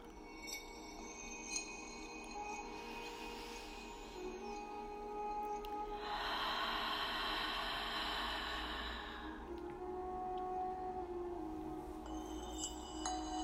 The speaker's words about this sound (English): Taking in a soothing inhale and exhaling through the mouth.